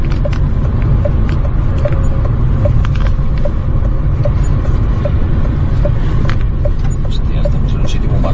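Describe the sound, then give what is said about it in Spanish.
A car engine drones steadily while driving in fourth gear, a loud, continuous low rumble heard from inside the vehicle, with a faint, regular ticking repeating about twice a second throughout; the car will not accelerate any further. “Pues sí que ha durado poco este coche.”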